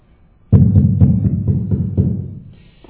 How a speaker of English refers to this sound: It was louder than that, but big knock.